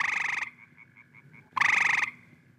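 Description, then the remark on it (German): Two loud, rasping frog calls, each about half a second of rapid pulsed croaking, separated by a short run of softer, evenly spaced chirps, with no voices present. “Schon heute hat manches Kind noch nie einen lebendigen Frosch gesehen oder gehört.”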